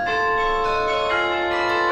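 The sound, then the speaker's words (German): Carillon bells played in a tower ring out together in sustained, overlapping tones that shimmer and hum steadily, with no voices, sounding full throughout. “Das Glocken- oder Carillonspiel gehört mit der Königlichen Glockenspielschule zum UNESCO-Weltkulturerbe.”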